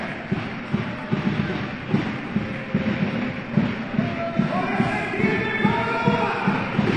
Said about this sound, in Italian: L'AGSM Forum incita con la Maraia gialloblu, finalmente ritornata con il suo tifo della parte bassa, giustamente, delle tribune, proprio radenti campo. Questi ragazzi sono encomiabili, vanno in giro in tutte le trasferte, veramente grande passione,